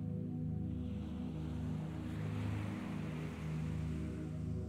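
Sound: ocean waves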